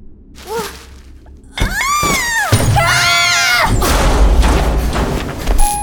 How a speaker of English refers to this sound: Whoa! Please don't throw more ice at me.